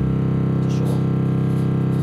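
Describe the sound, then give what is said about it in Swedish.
A very low organ pedal note, great C on a 16-foot bassoon reed stop, held steadily for about two seconds, with a loud, buzzing, rattling tone. “En svag lägsta ton låter så. En lite starkare fagotten.”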